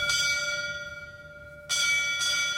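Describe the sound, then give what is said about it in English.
A firefighters' ceremonial bell tolls twice at a firefighter's funeral, a centuries-old final call for a fallen comrade; each clear metallic strike rings out with a long shimmering decay, the second following after about a second and a half. No voices. “Then, firefighters performed a centuries-old bell ceremony, a final call for a fallen comrade.”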